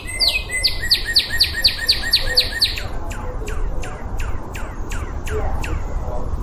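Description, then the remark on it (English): A cardinal sings a rapid series of bright, repeated whistled notes, then shifts to slower, sharply downslurred notes that sound like laser zaps, over a steady low background rumble. “The cardinals are the most space-aged of bird songs. Here at the end there sounds like some kind of laser.”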